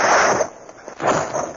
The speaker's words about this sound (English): I dive headfirst into the open warehouse door as a half dozen packing crates crash on the dock just a few feet away.